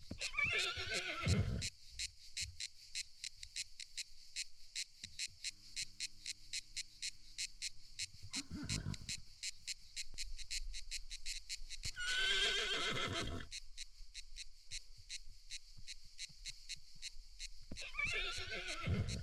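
Horses whinny in several loud, separated bursts, with possible hoofbeats, while crickets chirp steadily and continuously underneath. No one speaks.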